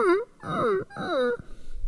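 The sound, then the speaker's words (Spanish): A voice imitates a whimpering puppy as a singing exercise, with three short, high, nasal whines that slide up and down in pitch, fairly loud, with brief pauses between them. “Nuevamente, sonido de perrito llorando.”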